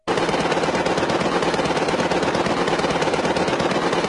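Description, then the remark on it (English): Sustained machine gun fire from a heavily armored train nicknamed the Bull Moose Special, fired toward the tent colony at Holly Grove, a loud, rapid stream of sharp cracks with no pauses, running the whole time as a dense, harsh rattle. No voices can be heard. “In February, a posse led by the local sheriff, Bonner Hill, drove a heavily armored train nicknamed the Bull Moose Special toward the tent colony at Holly Grove, then opened fire with a machine gun.”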